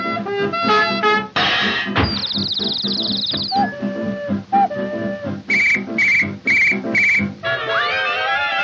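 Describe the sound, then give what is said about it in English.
A run of loud whistles blowing one after another: a warbling trill, a few steady held tones, four quick repeated toots, then rising, sliding whistles at the end over a busy background. “Just any old whistle that blows in the night.”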